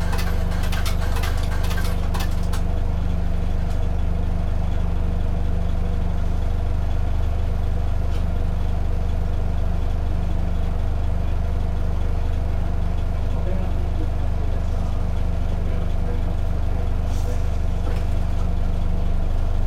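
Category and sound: vehicle, bus engine idling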